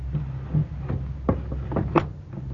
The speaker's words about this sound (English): Yes, child. Go bolt the door.